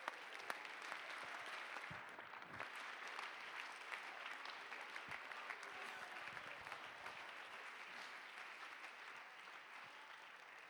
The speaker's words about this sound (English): If you believe what I'm preaching, you ought to clap your hands right now.